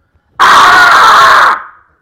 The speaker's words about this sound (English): I'm going to scream. Sound? All right.